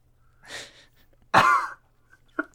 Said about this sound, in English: with all your injuries, you cough yourself awake.